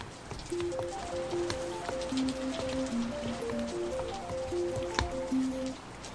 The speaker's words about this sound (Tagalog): Ay, oo. Kahapon pa nga, hindi tumitigil ang malakas na ulan. May bagyo yata.